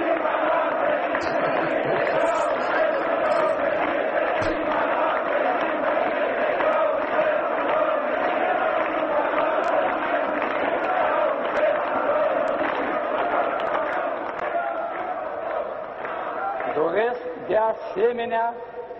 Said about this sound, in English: But the video is worth looking at because the crowd is huge. I guess it's in Bucharest. They must have a Masonic square in Bucharest.